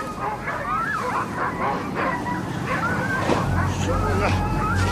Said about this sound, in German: Was ist mit den Hunden los?